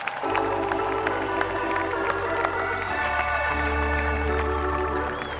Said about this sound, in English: They believed, and they're champions. So one round of applause for those guys who really made this happen.